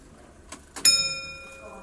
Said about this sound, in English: You'll hear a little click. Click. She's now getting ready. She's now getting ready to chime. Like just at about 2 minutes before the hour, click. She's now, the escapement has moved into position. She's ready to chime. She'll come out at 2 o'clock.